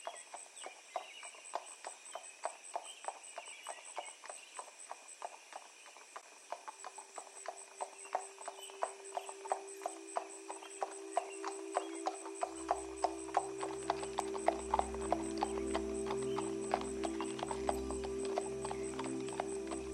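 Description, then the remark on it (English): Horses trot steadily over cobblestone roads, their hooves clip-clopping in a quick, even rhythm that grows louder, while a low droning tone swells in underneath. “Birds chirp in bushy green trees as horses trot by along the cobblestone roads.”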